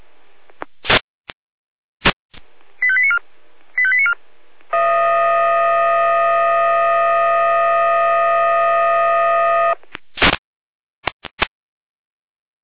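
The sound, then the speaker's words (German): Fire brigade dispatch alarm tones from the Jena control centre in Germany, over a narrow radio channel: sharp clicks and two short beeping bursts, then a loud, steady multi-pitched tone held about five seconds, ending in more clicks, alerting crews to a vegetation and field fire near Stiebritz. “Hier ist wieder Jena mit Einsatzalarm.”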